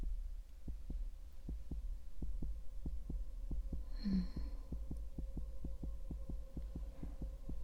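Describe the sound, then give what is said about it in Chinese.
A rapid, steady heartbeat of a man lying flat during an experiment, heard through a stethoscope, with muffled thumps repeating evenly over a low, constant hum and no voices. “好，首先咱们需要先来听一下心跳。先生，听诊器可能会有一些凉，你稍微担待一下。”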